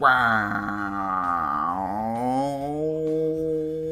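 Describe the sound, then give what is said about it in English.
A voice imitates a wobbly guitar pedal effect with one sustained, wavering hum. It warbles and sags in pitch before settling into a steady drone, fairly loud, with no other sounds around it. “Even that pedal effect on the guitar, that”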